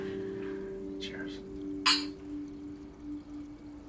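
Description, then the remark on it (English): Wine glasses clink lightly a few times as a man picks them up, with one brighter, sharper clink standing out, over a steady low hum in the background. “He hears her and closes the fridge, picks up the wine glasses, and returns to the living room.”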